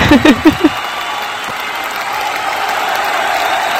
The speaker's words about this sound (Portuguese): A editora vai colocar palmas nessa hora.